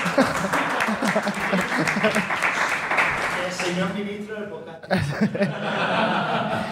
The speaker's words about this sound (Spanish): de hecho acaba de llegar, un aplauso al graduado, por favor.